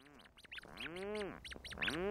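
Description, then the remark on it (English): Rhinoceros auklets, medium-sized dark gray seabirds related to puffins, call in the middle of a July night in the Strait of Juan de Fuca off the Pacific coast: overlapping low, groaning moans that rise and fall, with sharper higher squeaks mixed in, fairly loud, continuing steadily without pause. “Rhinoceros auklets are relatives of puffins, medium-sized, dark gray duck-like birds that spend their days at sea and then return at night with fish for their single chick hiding deep in a burrow.”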